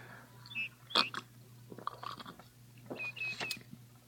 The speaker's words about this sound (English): Pardon, ma'am. but I'm very thirsty. Let me drink of thy pitcher, I pray thee.